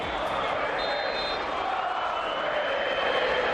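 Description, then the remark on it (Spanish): A stadium crowd of Atlético de Madrid supporters at the Metropolitano chants "Courtois, muérete" at goalkeeper Courtois after Real Madrid scores the 0-1, a dense, steady roar of many voices that holds at an even, loud level for the whole few seconds without a break. “A gritos de Courtois, muérete, cuando marca el Real Madrid el 0-1, Courtois se da la vuelta, lo celebra delante de los seguidores del Atleti y se desencadena todo lo que han escuchado.”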